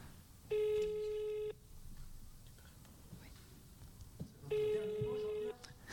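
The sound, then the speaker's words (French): A telephone ringback tone on an outgoing call made during a radio show sounds twice, each a steady one-second buzzing tone separated by a long pause of quiet background noise. “Et il faut souvent laisser sonner longtemps.”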